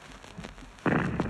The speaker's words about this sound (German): Zweite Feuersalve. Die Granaten brausen nach vorne und schlagen gegen die gegenüberliegende Bergwand. Eben war ein Schuss, der hinter uns lag.